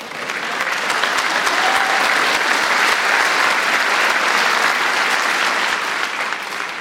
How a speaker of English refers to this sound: Have a seat. Good job. Give yourselves a hand.